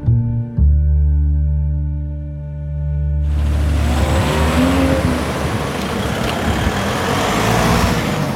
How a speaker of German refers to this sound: So, ihr merkt schon, ihr hört Straßengeräusche, Straßenbahngeräusche. Wir sind rausgegangen in Erfurt.